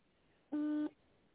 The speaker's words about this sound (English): Oh, I heard a beep. I thought it hung up.